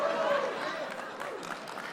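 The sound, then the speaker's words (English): Steady applause from faculty at Lubbock Christian University, dense and fairly loud throughout, with scattered sharper claps standing out near the end and a faint cheer or voice rising briefly at the start. “Not because faculty are clapping way too loud.”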